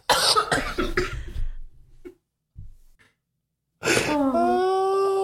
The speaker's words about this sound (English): I can't start laughing. I'm never going to stop coughing.